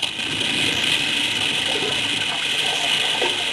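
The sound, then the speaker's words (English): Rushing river water roars steadily and loudly after an earth slide changes the river's course, a dense continuous wash of churning flow with a low rumbling undertone and no pauses throughout. “Yeah, and look at it change the course of the river.”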